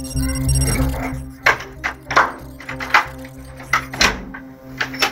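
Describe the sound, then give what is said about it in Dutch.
A front door of a house in Alkmaar being opened by a man: a series of sharp clicks and knocks from the lock and handle, then a soft thud, over a steady low background hum. “Tot het moment dat hij de deur opendoet, denken we alleen maar na hoe we hem zo lang mogelijk aan de praat kunnen houden.”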